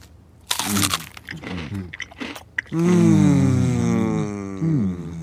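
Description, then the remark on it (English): Several loud, irregular crunches of cookies being bitten and chewed, followed by a long, wavering hummed "mmm" of enjoyment that carries on to the end. “Shall we each have one? Yes, this will be our special treat for the day.”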